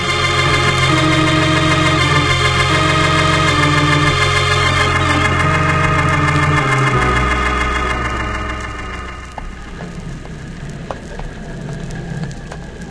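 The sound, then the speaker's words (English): A boat engine on a lake drones steadily and loudly with a deep, even hum, shifts pitch partway through, then eases off beneath a patter like rain on water. “How's that engine doing, Ned?”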